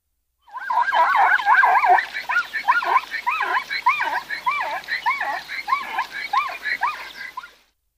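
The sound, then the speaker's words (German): A zebra calls in a long, wavering series of rapid, squealing yelps, somewhere between a whinny and hysterical laughter, loud at first and gradually tapering over about seven seconds. “Der typische Zebralaut, der klingt für viele wie eine Mischung aus Wiehern und hysterischem Lachen.”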